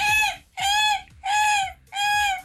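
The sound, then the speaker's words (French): A person imitates a seagull's cry with four loud, nasal, squawking calls in a steady rhythm, each with a short gap between and no talking. “Allez, la mouette.”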